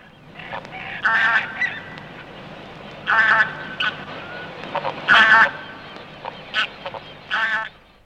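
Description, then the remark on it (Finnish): A migrating flock of bean geese honking in flight, loud nasal calls arriving in bursts every couple of seconds with softer overlapping honks between, as if passing overhead. “Lähinnä mielestäni tähän kysymykseen tulisikin juuri hanhi ja ehkä lähinnä niistä metsähanhi.”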